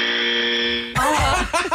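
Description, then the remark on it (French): A loud, steady electronic quiz buzzer blares for about a second as it is tested before a quiz, then gives way to a high-pitched voice squealing or laughing. “Ben moi, tu sais comment je suis poche à ton quiz, alors ça, c'est mon buzzer.”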